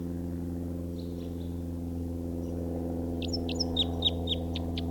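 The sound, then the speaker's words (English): A bird in song flight sings in quick, bright chirps and trills high overhead, loudest toward the end, faintly at first, all over a steady low engine drone. “Where's that bird again?”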